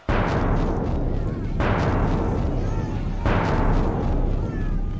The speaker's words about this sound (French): Le canon du château Saint-Ange tira 3 coups. C'était pour annoncer que le numéro 3 avait gagné.